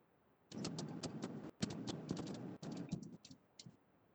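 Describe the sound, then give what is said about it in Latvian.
Rapid, uneven clatter of keys on a computer keyboard, a steady burst of typing lasting a few seconds with brief pauses, moderately loud, with no voices; a meeting participant typing during a roll-call vote. “izklausās, ka Māra raksta kaut ko, bet dzirdēt mēs nedzirdam”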